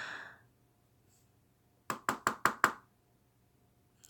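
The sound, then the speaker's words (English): A quick series of five sharp knocks on a door, evenly spaced and loud, in an otherwise quiet stretch with a brief breathy sound at the start. “Who's at the door?”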